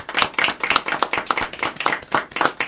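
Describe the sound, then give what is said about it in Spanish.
A small group applauds on Radio Tarumba after a story about a cat is told, with quick overlapping claps in an uneven, steady patter that stays fairly loud for a few seconds, with no talking underneath. “¡Aplausos!”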